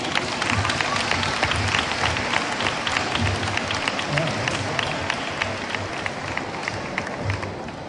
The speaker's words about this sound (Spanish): Felicidades a ambos. Un fuerte aplauso, ¿no?